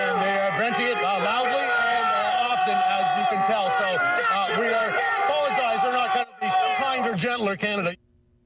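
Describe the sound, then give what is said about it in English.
Protesters in Ottawa shout and yell at reporters covering the protests, voices over one another in a loud, continuous barrage. After a brief break the angry shouting resumes, then cuts off abruptly. “our colleagues up here covering these protests, being harassed, screamed at, as you can hear.”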